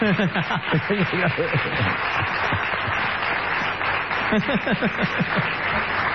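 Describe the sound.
A crowd applauds steadily throughout for Ale Dolina's birthday, the clapping blending with many voices singing happy birthday together in a warm, continuous wash of sound.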